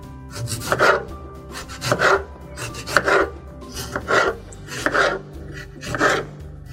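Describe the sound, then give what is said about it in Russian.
A knife chops a tomato into cubes for a raw-food salad on a cutting board in a steady rhythm, with about seven crisp, scraping cuts spaced roughly a second apart and no talking. “Так, мы разрезаем кубиками наш помидор.”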